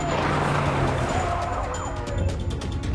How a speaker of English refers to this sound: The Charger speeds toward a head-on collision with another vehicle. It spins to the left and slides off the road.